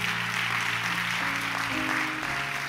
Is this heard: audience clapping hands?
yes